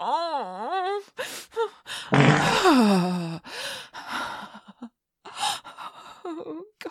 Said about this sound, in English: Oh, gosh, I can hear you panting.